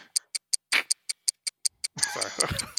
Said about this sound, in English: What's that ticking? We're going from D clock to the Doom clock.